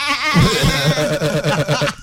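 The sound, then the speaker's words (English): A man's deep voice mimics a goat, drawing out a wavering, low-pitched bleat that quavers for a couple of seconds, loud. “That's not the way a goat sounds. Your goat bleats in bass.”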